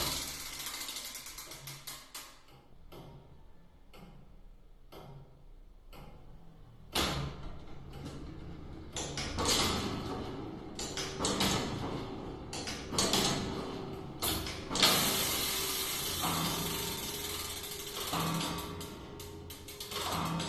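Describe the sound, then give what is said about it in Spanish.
Inside the tower clock of the Torre de Pliego, its handmade gear wheels turning: slow, regular mechanical clicks about once a second, then a louder, dense clattering and grinding whir as the works run continuously while striking the hour, with no voices. “Bueno, y fíjense cómo suena por dentro el reloj de la Torre de Pliego.”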